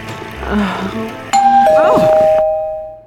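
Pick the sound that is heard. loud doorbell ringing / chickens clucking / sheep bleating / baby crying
loud doorbell ringing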